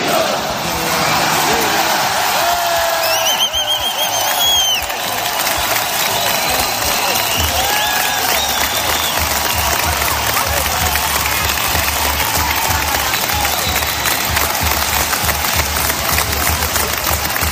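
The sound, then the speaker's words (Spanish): A large crowd of Bildu supporters in the town hall square in Pamplona chants "Agur UPN, adiós UPN" and cheers toward the new council on the balcony, with steady, dense clapping throughout, loud and continuous, with scattered whistles and shouted voices rising above the roar. “Escuchado el ambiente, los votantes simpatizantes de Bildu gritando Agur UPN, adiós UPN.”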